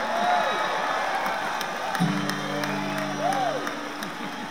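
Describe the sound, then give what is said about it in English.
Steady audience applause for a musician being introduced, a dense wash of clapping mixed with crowd cheers and a few whoops, holding at an even level for the whole stretch. “And I wish you'd give him a great big hand, because he'll get out here and just tear it up.”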